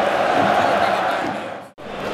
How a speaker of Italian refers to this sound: cantano i tifosi, abbiamo messo al volo questa